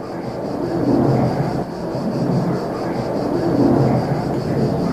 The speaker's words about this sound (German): erstmal hörten wir gar nichts, außer das Flugzeug, das über uns kreiste.